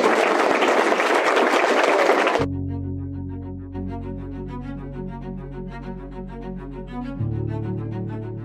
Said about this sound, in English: You guys give a big round of applause.